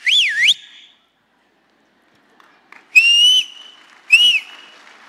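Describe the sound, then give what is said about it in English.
A loud, piercing human whistle repeated three times: a warbling rise-and-fall, then two sharp rising calls with a held tone, ringing out clearly with pauses between. A parent whistles to find their children among many people at an event. “And so I needed to find them. Y necesitaba encontrarlos. So I would. Entonces silbaba.”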